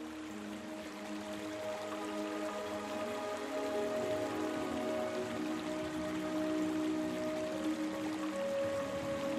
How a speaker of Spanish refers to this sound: Por allí pasa muy cerca el río que os regala el sonido del fluir.